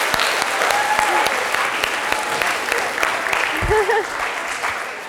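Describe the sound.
An audience claps steadily for several seconds, a dense patter of many hands, with a few faint voices and a brief cheer rising through the applause.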